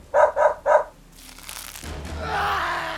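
A dog gives three quick, loud barks in a row, followed by a rough scuffling, rustling commotion that builds and continues as the dog fights with a man.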